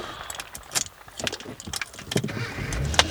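Busy jangling of keys and clattering movement as two people jump into a car in a parking lot, with a low rumble rising at the very end as the car starts up. No one speaks.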